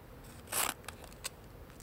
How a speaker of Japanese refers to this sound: はい、 ハサミで髪を切る音。